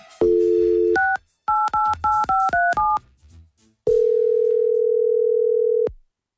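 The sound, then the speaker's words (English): A telephone dial tone, then a quick run of about seven touch-tone beeps as a number is dialed to make a phone call, followed by a pause and one long, steady ringing tone. Loud, no voices. “It's time to make that phone call, and hopefully I can get my best friend voice on.”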